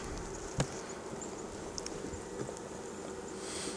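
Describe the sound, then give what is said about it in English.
A steady, droning hum of many honeybees buzzing at an open hive box, several hundred bees on a frame with their heads in the honey, feeding, with a few soft clicks and knocks breaking through the continuous buzz; no one speaks. “On the box, outside box side, there's hardly any bees.”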